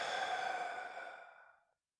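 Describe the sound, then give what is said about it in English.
One long, audible exhale, a soft breathy rush that fades away over nearly two seconds, with no talking around it. “Breathing.”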